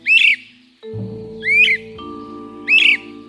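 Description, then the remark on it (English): Three loud, rising whistled wheep calls of a great crested flycatcher, one of a pair using a nest box, evenly spaced about a second apart, ringing out over a low steady hum in the background. “A lovely pair of great crested flycatchers.”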